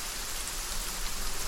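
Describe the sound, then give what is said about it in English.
Steady late-summer rain falls continuously in the Sonoran Desert, a dense, even hiss of drops pattering on surfaces, moderately loud with no voices or other sounds. “Rainfall rejuvenates the arid land.”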